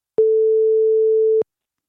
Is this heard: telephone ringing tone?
yes